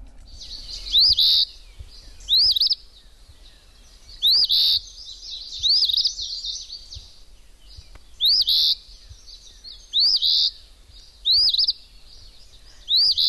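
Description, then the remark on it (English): An Eastern Phoebe, a flycatcher, sings its short, raspy two-part phrase over and over, about eight repetitions at a steady pace, clear with no one talking. “And we happen to have a sound effect from that particular bird, so let's listen to that real quick.”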